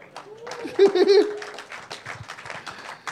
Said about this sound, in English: Very tepid applause. Yeah. Wasn't that impressive?